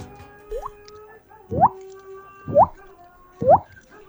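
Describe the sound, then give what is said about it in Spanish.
A person from Posadas mimics water drops with the voice as a talent: four quick, hollow plinks with rising pitch, evenly spaced about a second apart, the first softer and the last three clear and bright. “Esta es mi habilidad de poder hacer el ruido de la gota de agua.”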